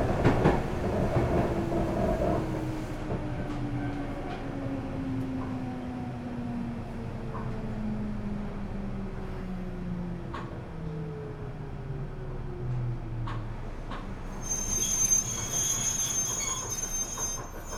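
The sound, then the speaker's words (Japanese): A local all-stations commuter train bound for Osaka rumbles along, heard from inside, its motor whine sliding steadily downward as it brakes approaching its next stop, with a thin high squeal rising near the end as it slows. “この電車は大阪阿部沼市行き各駅停車です。まもなく高脇です。”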